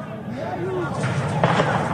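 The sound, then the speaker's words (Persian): Two dull, booming bursts of tear gas canisters fired by police at a Sunday gathering of Azarab company workers in Iran, about half a second apart, ring out over a noisy crowd with raised voices and shouting throughout. “دارن گاز اشکاور میزنن.”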